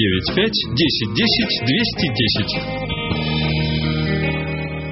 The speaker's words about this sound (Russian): Отбивка номер 3.